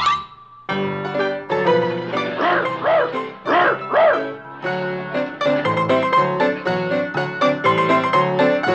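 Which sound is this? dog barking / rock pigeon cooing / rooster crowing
dog barking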